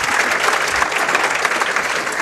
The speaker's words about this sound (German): Und genau, dein Applaus.